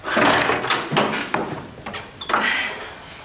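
A door is opened as a person in a jogging suit enters the room, with a handle rattle, a rushing swish of movement and a few soft knocks and thuds over about three seconds. No one speaks.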